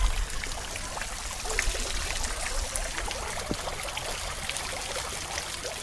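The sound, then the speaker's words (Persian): A stream trickles steadily, with a continuous babbling wash of water and small bright splashes scattered throughout. No voices; the water flows on its own at an even level. “صدای پای آب.”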